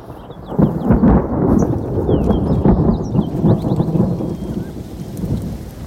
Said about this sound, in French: il y a l'orage, il y a le souffle de l'orage, et il y a aussi l'odeur de l'orage. Ah oui, c'est extraordinaire cette odeur d'orage. Bien avant d'ailleurs les premiers éclairs ou les premiers tonnerres, l'air semble s'épaissir.